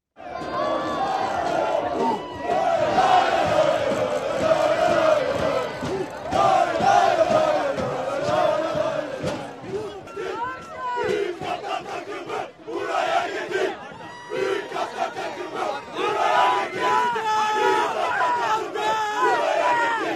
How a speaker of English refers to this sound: And what you hear there is the chanting, obviously, but also like banging on and jumping on the metal bleachers that the fans were sitting in. It was pretty raucous.